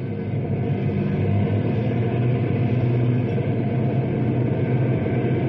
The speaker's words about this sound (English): Hey, here come two prison trucks right now.